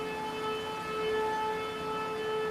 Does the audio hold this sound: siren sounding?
yes